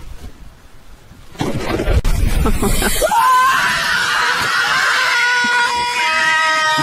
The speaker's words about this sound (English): He screamed like a girl. Yeah, for sure. I think I would too, though, even if I wasn't a girl.